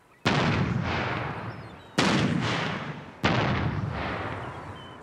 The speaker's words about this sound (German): Während die Leinen ausgebracht werden, feuert die Besatzung in 1-2 Minuten Abständen eine auf dem Boot montierte akustische Kanone ab, um die Vögel zu vertreiben.